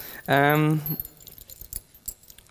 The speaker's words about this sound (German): Ich habe zwar nicht so viele Schlüssel dran, aber einen Hausschlüssel habe ich auch.